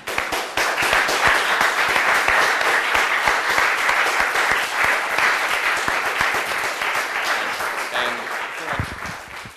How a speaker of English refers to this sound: We're lucky to have such a unique and distinguished guest of the Society tonight. I'd like everyone here to stand and join me in applauding our speaker, Seth Shostak.